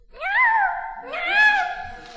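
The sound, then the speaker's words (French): A 35-year-old man's voice imitates a cat, giving two drawn-out meows in a row, each rising and then falling in pitch. The meows are fairly loud, with no other sounds. “Ça ressemble plutôt à une imitation de chat.”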